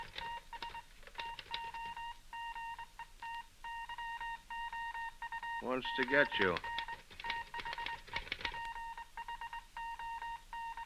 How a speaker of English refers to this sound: Hang up. Your telephone. Receiver.